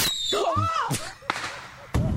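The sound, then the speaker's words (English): A firework rocket launches with a high whistling whoosh that bends in pitch, followed by three sharp, loud cracks spaced about a second apart. “I want to hear the rocket.”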